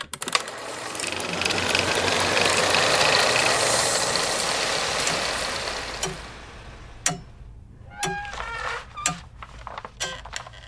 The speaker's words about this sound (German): Das beharrliche Ticken der großen Pendeluhr im Büro des Dekans macht Albert Schweitzer nervös.